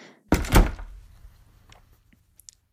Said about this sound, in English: And shut the door behind you.